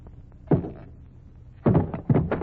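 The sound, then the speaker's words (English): A hammer strikes a wooden packing case to knock its lid off, in a few heavy, hollow blows: one, then after a pause three more in quick succession, fairly loud with no one speaking. “If you'd like to have the janitor help you, I'm perfectly capable of knocking the lid off a packing case without help from a janitor.”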